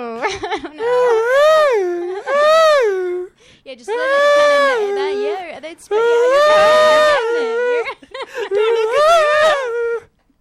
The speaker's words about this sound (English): All right, I think I've got it. I think I got the scream down. This is kind of from my stomach, based on what we ate tonight.